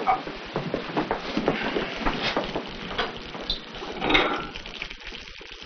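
Coffee pours steadily into a cup in a restaurant, a soft continuous trickling splash with a brief swell near the end, fairly quiet, with no talking.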